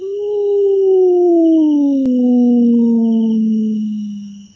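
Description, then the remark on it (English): A single long wolf howl a short distance off, loud and steady, holding one mournful pitch for several seconds and slowly sliding lower before trailing off, with a brief click partway through and no talking. “At a short distance off, a wolf howls.”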